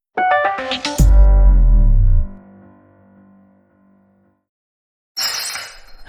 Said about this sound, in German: ich glaube, ich habe deine Lieblingsvase zerbrochen.